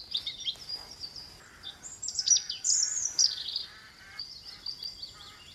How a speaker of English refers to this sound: It's a delightful song, if you can blot out the rooks which are squawking away in the background and are rather irritating blue tit, but focus in on it. And if you're up early for the dawn chorus, it's always one of the first to get going.